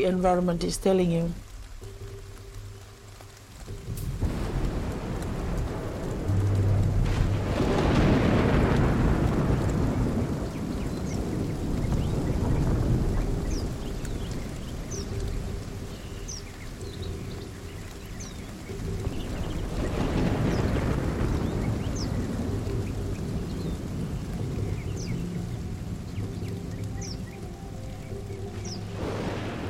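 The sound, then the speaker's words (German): A stormy outdoor scene, with deep rolling rumbles of thunder swelling and fading twice over steady wind and rushing rain. The storm sounds loud, continuing without pause. “Es gab einen gewaltigen Sturm.”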